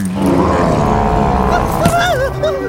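A loud, sustained terrifying roar, thick with rough low rumble throughout, breaking into wavering, howl-like tones toward the end.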